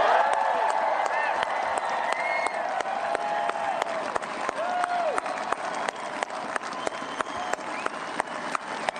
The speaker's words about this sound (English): I'm just going to, I love the crowd giving a standing ovation to the first statewide elected African-American woman in Virginia's history.